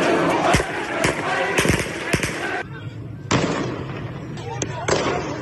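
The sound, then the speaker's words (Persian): At a street protest march in Iran, security forces fire shots into the air to silence and disperse the crowd. Sharp cracking bangs go off several times over a dense, noisy crowd murmur, some in quick pairs, others spaced apart, loud against the constant din of many voices. “در بیشتر راهپیمایی‌های مردمی ماموران انتظامی ابتدا با شلیک‌های هوایی تلاش کرده‌اند آنها را ساکت و جمعیت را متفرق کنند.”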